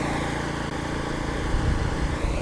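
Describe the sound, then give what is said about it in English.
A Craftsman heavy duty ride-on garden tractor with a 12 gauge cutting deck: its 21 horsepower Briggs & Stratton V-twin engine runs at a steady idle, a loud, continuous low rumble with a throbbing pulse and broad mechanical hiss, with no one speaking. “I'm sitting here on the Craftsman heavy duty ride on garden tractor. With a 21 horsepower Briggs & Stratton V-twin engine and a 12 gauge cutting deck, and I'm just about to drop the blade.”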